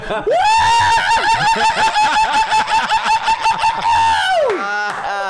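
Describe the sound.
A loud, shrill, cockatoo-like squawk held for about four seconds, wavering in pitch, followed by a short, fainter cry. No talking.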